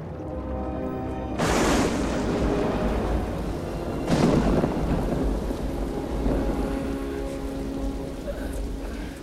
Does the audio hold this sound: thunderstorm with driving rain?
yes